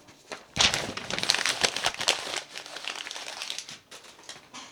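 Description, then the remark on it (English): A printer feeds paper out without printing on it, a dry, crinkling rustle that runs steadily for about four seconds, moderately loud, with no one speaking. “Why does this thing spitting out paper that isn't not printing, man?”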